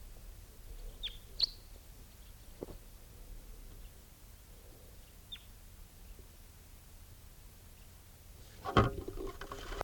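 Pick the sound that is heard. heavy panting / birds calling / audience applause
birds calling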